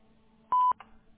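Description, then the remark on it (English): A single sharp electronic beep, steady and mid-pitched, lasting about a quarter second and louder than the faint line hum around it, like a voicemail recording tone. “So leave a message at the tone and we'll get back to you at our earliest convenience.”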